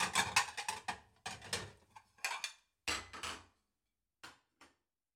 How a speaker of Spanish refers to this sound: Quito la mesa.